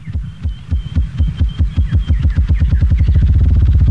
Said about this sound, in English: And the drumming of the ruffed grouse.